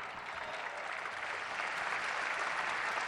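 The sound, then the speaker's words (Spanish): Sustained audience applause, a dense, steady wash of many hands clapping at once, loud and unbroken throughout with no voices standing out. It closes an official ceremony after the words of the President of Argentina, a strong send-off for the athletes who will represent Argentina at the Paris 2024 Olympic and Paralympic Games. “Con las palabras del señor presidente de la Nación, damos por finalizado el presente acto, despidiendo con este fuerte aplauso a los jugadores a los deportistas que nos representarán en los Juegos Olímpicos y Paralímpicos París 2024.”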